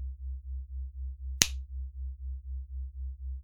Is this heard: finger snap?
yes